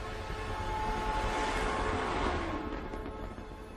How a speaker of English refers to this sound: An engine like this will be just one of six which will help propel the SLS into orbit.